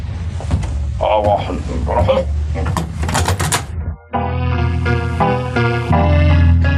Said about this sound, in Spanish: ¡Tatake! Abre la puerta para dar paso al asesino. ¡Tatake obedece!